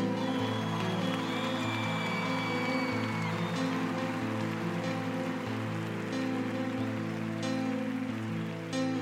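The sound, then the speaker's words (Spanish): A crowd applauds steadily and densely throughout, a continuous wash of clapping layered over sustained, droning musical tones, with no voices standing out. “Un aplauso para ellos, ven.”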